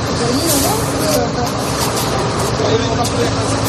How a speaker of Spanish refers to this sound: Es el sonido de un grupo de 40 personas bajando del autobús frente a las puertas de un hotel de 4 estrellas en Almería. En el vídeo se les puede ver con sudaderas, mochilas pequeñas, sonriendo. Les acompaña el personal de Cruz Roja.